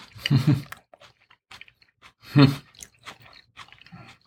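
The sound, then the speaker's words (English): Crunchy chewing of a fresh homemade salad eaten with wine, with two louder bites followed by a string of smaller wet crunches and mouth clicks, heard alone with no talking. “This is really fresh and crunchy.”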